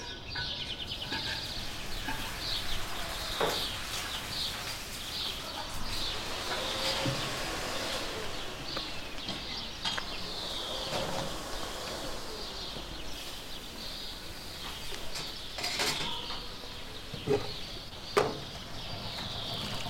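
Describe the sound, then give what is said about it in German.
Birds chirp steadily in the background of quiet, empty city streets, with faint ambient hum and occasional brief sharper calls, no voices present. “Es kommen dann natürlich irgendwann die kleinen Sachen, eben die Vögel überall.”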